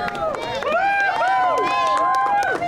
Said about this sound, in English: Melby, the manatee, had been recovering after he was rescued earlier this year from a storm drain in Melbourne Beach. Melby splashed back into the wild to applause and cheers from a big crowd.